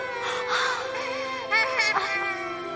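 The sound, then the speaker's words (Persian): A child wails and sobs in high, strained bursts, loud, with rising and falling cries over about three seconds and a few sharper catches partway through, as the mother tries to calm it. “اگه گریه کنی که نمیفهمم چی شده”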